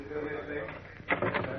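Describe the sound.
A door to the hall is pulled open with a short burst of clattering, rattling noise partway through, following a stretch of murmuring voices in the background. Moderately loud.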